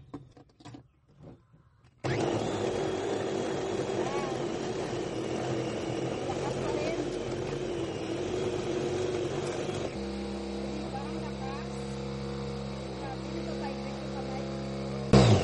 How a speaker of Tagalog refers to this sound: Gagamit ako ng meat mincer para pagaan yung aking pagmimince. Tingnan nyo naman kung gaano kalakas yung motor nito.